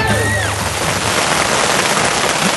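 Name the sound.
sudden rain shower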